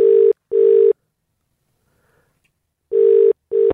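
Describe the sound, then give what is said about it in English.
A telephone ringback tone of an outgoing phone call sounds in two double bursts, brr-brr, a pause of about two seconds, then brr-brr again. It is loud, clear and steady, with no voices. “Sorry about the random call.”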